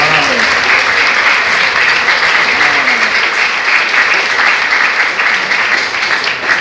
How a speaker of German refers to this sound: Applaus bitte.